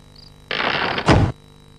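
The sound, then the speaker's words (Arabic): A door slides along for about half a second with a rough, scraping rush, then slams shut on a bear with a heavy thud. Fairly loud against a quiet background. “كان هادئا حين أغلق الباب عليه لأنه كان واثقا من قدرته على التخلص منه.”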